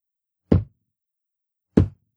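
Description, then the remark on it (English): Two dull, heavy thumps as someone touches a table, spaced a little over a second apart, each a short low-pitched knock that dies away quickly into silence. “You're going to hear some thumping.”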